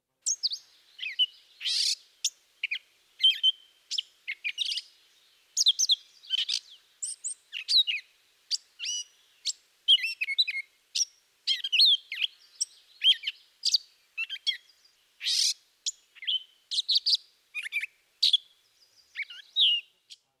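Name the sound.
catbird song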